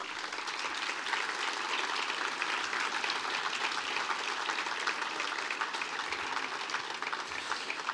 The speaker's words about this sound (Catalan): Us animo a seguir endavant amb força i demano per tots vosaltres un gran aplaudiment per tota la feina que feu.